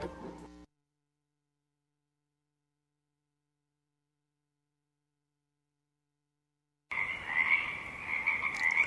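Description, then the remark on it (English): After a brief tonal snippet and a long stretch of silence, a dense marsh frog chorus starts abruptly: many overlapping croaks and trills forming a steady, fairly loud wall of calls, with no voices. “And as the darkness recedes in the marsh, the frog chorus becomes quiet and intermittent, and the first morning birdsong begins to fill this void.”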